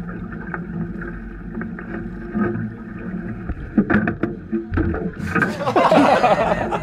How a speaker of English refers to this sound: Here's a video I took in 2014 when I worked for the U.S. Fish and Wildlife Service. We were setting gill nets for paddlefish in South Dakota's White River when the boat hit shore and threw the other biologist into the water.